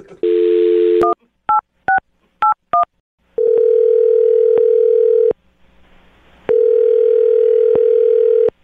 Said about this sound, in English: I'm going to dial the phone number right now, though, and get her on the phone and find out why she's not calling you back, okay?